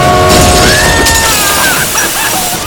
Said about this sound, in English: A train. Not engaging. A train barreling through your living room.